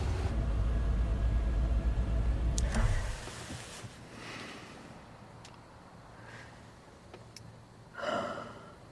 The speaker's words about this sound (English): Elliot and Camila pull up in his car.